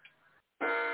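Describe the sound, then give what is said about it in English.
Several clocks go off together in a loud, sustained ringing chime that starts abruptly after a short quiet gap, preceded by a fainter tone. “you can hear all my clocks are going off.”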